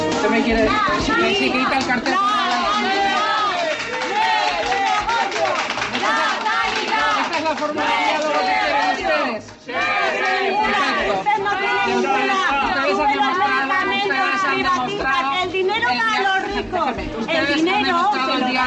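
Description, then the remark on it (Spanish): A dense crowd of protesters in Aragón, Spain, shouts insults and jeers continuously at regional president Rudi, accusing the Aragón government of wanting to privatize public healthcare; many raised voices overlap into a loud, steady roar, with only a brief dip in volume about halfway through. “Rudi fue insultada, abucheada, por quienes acusaron al gobierno de Aragón de querer privatizar la sanidad pública.”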